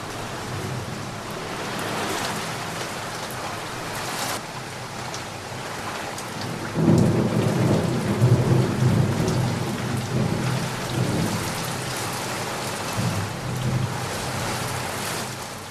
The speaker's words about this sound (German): Kaum aber hatte sie das Dorf hinter sich gelassen, als auf einmal große Wolken am Himmel aufzogen und schwere Regentropfen auf die Erde fielen.